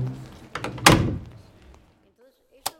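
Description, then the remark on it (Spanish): A few heavy thumps against a door, one loud impact followed by a short rumbling decay, then a quiet pause and one last sharp knock. “Y cuando por fin había conseguido adaptarse a ese nuevo cambio, llamaron a la puerta y se llevaron a su padre.”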